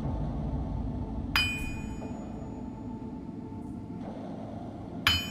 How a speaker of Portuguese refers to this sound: Quando a primeira fresta da porta vai se abrindo, uma pequena lufada de vento com um veio mágico, e você consegue ouvir o ressoar de um martelo que bate no aço.